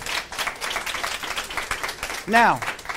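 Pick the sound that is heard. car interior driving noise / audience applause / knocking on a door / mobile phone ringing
audience applause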